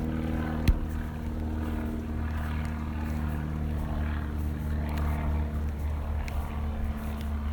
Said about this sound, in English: I hear a plane passing overhead.